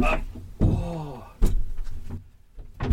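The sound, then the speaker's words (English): A sharp clunk of a side door latch as it is unlocked, then a creaking, rattling swing as the door opens to let air in on a warm day, a second solid thunk, and a quieter click near the end. “Let me just open a side door and let some air in, because it's not a hot day, but it's a warm day, and I would like some air.”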